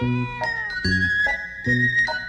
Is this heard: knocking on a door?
no